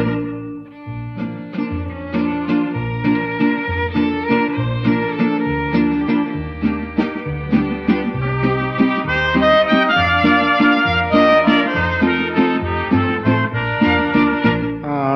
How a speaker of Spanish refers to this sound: O se escucha el cilindrero trovador.